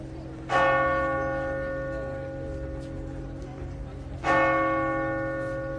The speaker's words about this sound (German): Und mit dem Glockengeläut aus Lourdes sind wir auf den Besuch von der Melsergrotte eingestimmt worden.